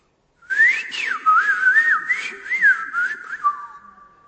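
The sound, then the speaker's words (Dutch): A person whistles an imitation of blackbird song: a continuous, fluting melody of rising and falling slides and short warbles, fairly loud and unaccompanied, lasting about four seconds. “Geweldig, wat kan een merel zingen.”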